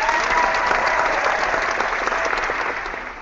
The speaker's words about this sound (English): So here's a round of applause for that, I guess.